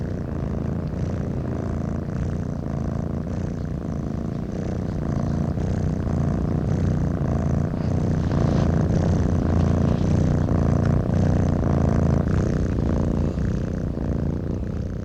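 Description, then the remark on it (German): Two cats purring together for 10 seconds, their low rumbling purrs overlapping into a steady, continuous drone with slight pulsing, and no voices or other sounds. “10 Sekunden sich überlappendes Geschnurre zweier Katzen einer der 34 Kehren.”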